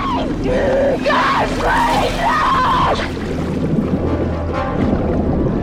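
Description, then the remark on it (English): A woman screams in several rising and falling wails over steady churning, splashing sea water as an actress in a harness is pulled to and fro in the sea by ropes held by stagehands on a beach during filming. The cries stop partway through while the rough water noise carries on. “On cue, they'd whip her to and fro in the sea, though the instructions became confused and the woman was pulled both ways at once, dragging her under.”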